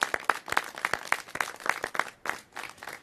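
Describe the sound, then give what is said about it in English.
An audience claps for about three seconds, sharp individual claps standing out irregularly over a steady wash of applause, at a moderate level with no talking, in San Francisco's Chinatown, cheering the announcement that the New Asia Project, 175 fully affordable homes for seniors, is moving forward. “We are ready to, yes, let's clap for that.”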